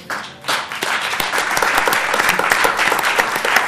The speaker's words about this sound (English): Well, it's because there is somebody there now, not that it took 147 years to do so. I just think it's interesting when people applaud that, because it's actually appalling that it took so long.